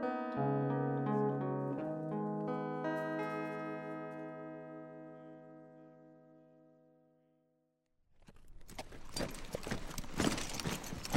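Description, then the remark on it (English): A ringing, sustained chord slowly fades into silence, then a bay horse's hooves clip-clop at a steady pace over a rough, noisy background for the last few seconds. No one speaks. “Frank reined his bay east at the river. Wolf trotted beside the horse.”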